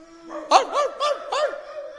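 Dogs bark four times in quick succession, sharp, over a faint steady background tone; no one speaks.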